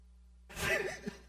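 A single yawn: a sudden breathy intake swelling into a drawn-out, airy exhale with a faint wavering voiced tone, fading after under a second, with no talking.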